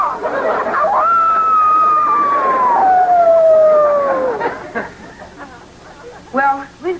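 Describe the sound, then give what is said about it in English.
A boy does the Wolf Patrol's wolf call, used when separated in the woods, with one long, sustained note that rises, then glides slowly downward for about three seconds. Soft murmuring voices and a short vocal sound follow. “When we get separated in the woods, we use the Wolf Call.”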